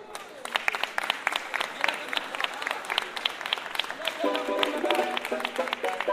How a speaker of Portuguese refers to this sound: Alô, Sorocaba! Eu quero uma salva de palmas